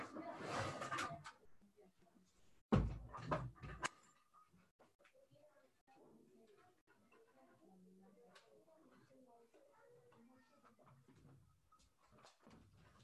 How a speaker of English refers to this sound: Now, let me just close the door for a second.